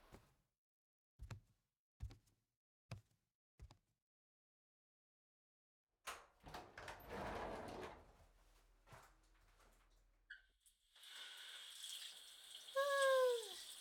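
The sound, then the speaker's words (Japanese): A few sharp knocks and clicks, then a shower of water starts rushing steadily for several seconds as someone takes a shower, ending in a brighter hissing spray with a couple of squeaky, rising chirps. “今ちょうどシャワー浴びてて。”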